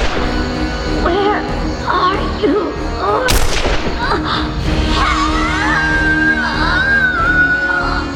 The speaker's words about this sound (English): Then he went to Booth, took the hot gun from her shaking hand, pointed and fired.